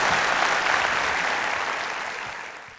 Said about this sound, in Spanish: Si Dios le habló, de un aplauso al Señor, que Él se lo merece.